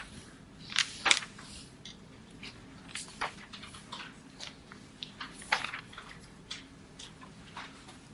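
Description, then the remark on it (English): Paper pages of a book being turned one after another toward page Nun Vav Amud Beis, with a string of crisp rustles and sharp flicks spread irregularly over several seconds. Soft rumbling sits underneath, and no one speaks. “Keep turning pages.”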